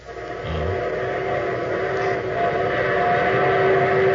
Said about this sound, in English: There's my train. The train that's taken me to my wedding, Throckmorton.